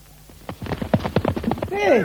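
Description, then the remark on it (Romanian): Rapid, rhythmic hoofbeats clatter as a runaway horse gallops while its rider pulls the reins in vain, building quickly for about a second before a short, high whinny rises over them at the end. “Nu știu, calul parcă a turbat! Degeaba trag de hățuri, că nici nu se închisește!”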